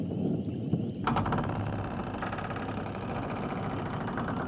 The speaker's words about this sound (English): Damn, look how big this door is. This shit look old. Let me open this shit.